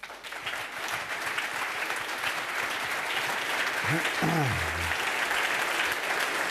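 Steady applause from an audience fills the whole clip, a dense, even wash of clapping that holds its loudness throughout, with a brief low tonal swoop partway through.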